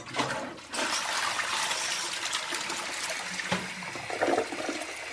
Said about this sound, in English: And even one attempting to flush a pair down the toilet.